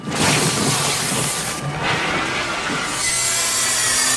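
A small buzzsaw cuts through wood with a loud, steady, gritty roar that dips briefly around the middle before grinding on to the end. No one speaks.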